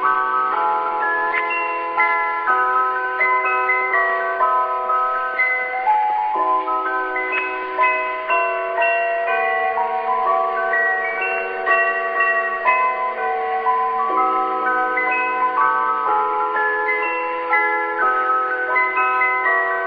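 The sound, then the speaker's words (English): A bright, bell-like Christmas tune rings out on a chime, clear melodic notes rising and falling in a steady rhythm with lingering overlapping tones, played alone without any voices. “It's a bit of a tune that I'll play on my chime that I've got with me here.”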